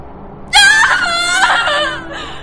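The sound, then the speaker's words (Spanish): A single anguished shriek from a loud voice: high-pitched and wavering, held for under two seconds before breaking off, with no other sounds around it. “Liadrin lanzó un chillido plagado de angustia.”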